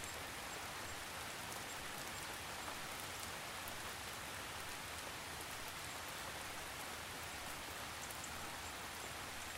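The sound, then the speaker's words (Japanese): Steady cold rain falls without pause, drops swaying in the wind, a dense, even hiss of countless drops pattering on surfaces, soft and constant throughout with no voices. “その雨粒は光を受けてキラキラと輝き、小さな宝石のようにきらめいています。”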